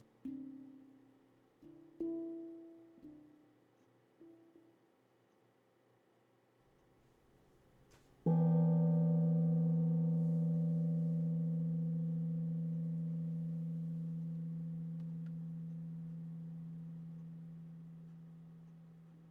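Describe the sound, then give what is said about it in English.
A few soft, short struck tones lead into one strong meditation gong strike signalling the beginning of formal meditation practice, its rich, low, humming ring sustaining and slowly fading for over ten seconds with no voices. “The sound of the gong will signal the beginning of formal meditation practice.”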